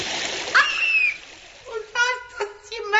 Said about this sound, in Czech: Polila vodom, rastopit ću se.